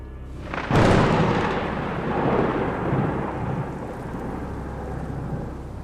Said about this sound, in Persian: همین که داشتم بیهوش میشدم باز یه صدای رعد و برق خیلی محکم اومد.